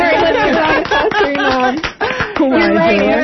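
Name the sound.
round of applause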